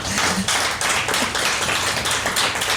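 An audience in a hall applauds a person on stage steadily, a dense crackle of many hands clapping at once, fairly loud and sustained throughout with no voices standing out.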